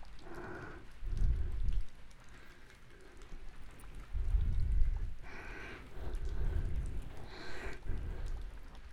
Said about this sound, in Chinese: 心跳好快呀！你也害怕打雷吗？